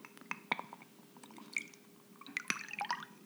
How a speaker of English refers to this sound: let's pour this, the Caesar version of Devil Dave's Blaster